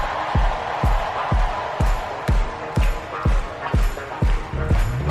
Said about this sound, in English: All right, ready, everybody. Clap your hands like this. Everybody clap your hands. Clap, clap, clap, clap. Now somebody scream.